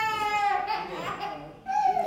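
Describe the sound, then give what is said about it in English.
A young child cries in church during a service, in two high, wailing bursts with a short break between them, the voice strained and tonal, loud against a quiet background. “I tell you what, it's great to hear children in the church as far as I'm concerned.”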